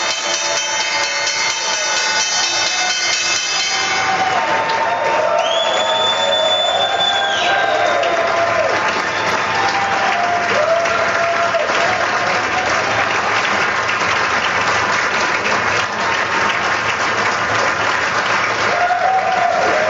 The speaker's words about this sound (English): The incoming leader of the free world is going to ring the bell here in about 20 seconds. An historic moment at the New York Stock Exchange as we get this opening bell rung by the president-elect, Donald Trump.